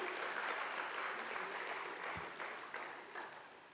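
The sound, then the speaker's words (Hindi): A crowd applauds steadily, a dense wash of many hands clapping at an even loudness that thins slightly toward the end, with no voices over it. “तो जोरदार ताली एक बारी हो जाए।”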